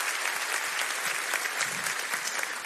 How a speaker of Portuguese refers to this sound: Com 19 anos, 18, 19 anos, comecei a namorar esta que é a minha esposa hoje. Salve de palmas pra Varoa.